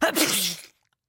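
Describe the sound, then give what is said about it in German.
A single stifled sneeze as someone holds their nose trying to suppress it, a short burst blending a throaty grunt, cough-like catch and breathy hiss, lasting under a second before abrupt silence. “Doch das hatte leider nur zur Folge, dass das Niesen, das nun die Stille zerriss, sich wie eine gespenstische Mischung aus Husten, Grunzen und Zischen anhörte.”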